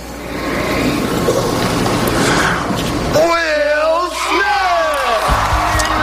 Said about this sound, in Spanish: Aplausos y ahí vamos.